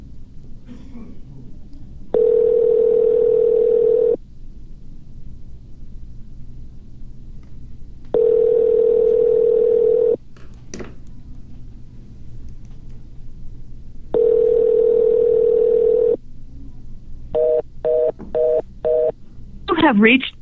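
A phone's dial tone sounds in three long, steady bursts separated by pauses, followed by a quick run of short keypad beeps as someone places a call, all fairly loud over a low background hum.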